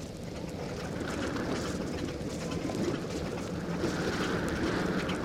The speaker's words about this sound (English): Small boats are approaching us now. They are carrying fruit.